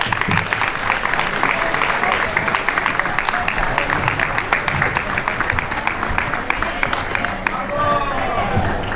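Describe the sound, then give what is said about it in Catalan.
Sustained applause from a crowd in Roquetes for the winners of a contest voted on Instagram, a dense steady patter of many hands clapping at a constant loudness for several seconds, with a faint murmur of voices underneath. “Un aplaudiment dels guanyadors.”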